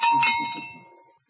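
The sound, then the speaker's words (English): A small hand bell rings briefly with a bright metallic clang, its clear tones sustaining and fading out over about a second. “Now, I'm going to ring my bell here.”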